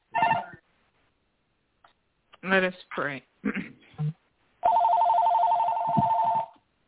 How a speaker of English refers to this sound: Someone's phone is in the background.